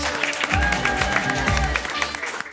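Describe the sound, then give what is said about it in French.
A studio audience on Europe 1 radio applauds loudly and steadily for a couple of seconds, welcoming Pauline Bression and Alexis Michalik, dense clapping over an upbeat music bed with a thumping bass line, fading slightly at the end. “Applaudissements pour Pauline Bression et Alexis Michalik.”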